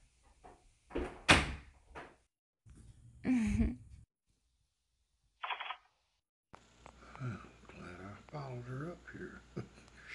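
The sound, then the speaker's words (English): A door is opened and shut with a few sharp knocks and thuds, then a brief hiss, followed by people talking. “The door.”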